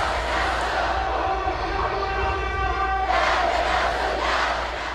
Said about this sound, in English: The march, organized by the Bahraini opposition blocs, was peaceful, with crowds chanting slogans like "Down, down government," "No to dictatorship," "Yes to democracy," and "No surrender."